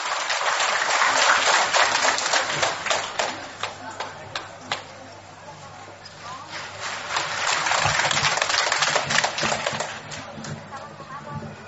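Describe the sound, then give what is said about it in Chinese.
Sustained applause from a sizeable crowd at a Guan Yin Citta (Xinling Fameng) gathering, welcoming a speaker from Shenzhen; a dense crackle of many hands clapping that swells, dips briefly in the middle, then builds again before tapering slightly at the end. “让我们掌声欢迎。”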